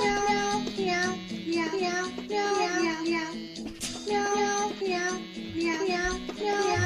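cat meowing

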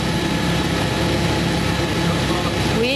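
helicopter rotor noise

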